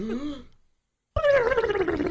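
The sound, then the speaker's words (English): A voice imitates Donald Duck's sneeze: a short throaty lead-in, a brief silence, then a sudden loud, raspy, gargling burst that slides downward in pitch. “would you like to try the Donald Duck sneeze?”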